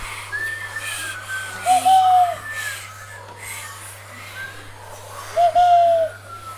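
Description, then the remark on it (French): A bird gives a clear, short whistled call, and a few seconds later another bird answers with a matching call, over a soft steady background hum, with no voices. “Et puis un autre oiseau qui répond.”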